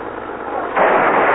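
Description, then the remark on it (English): A car crash in which a car crashes into another car: a steady noisy rumble suddenly swells into a louder, harsh crunching roar that holds to the end. No one speaks. “Hey, they crashed into my car.”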